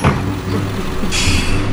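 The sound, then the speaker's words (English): A steady low engine rumble from a bus, then a sharp bright hiss of air brakes bursting in near the end and holding over the drone. “Here we are, back on a bus.”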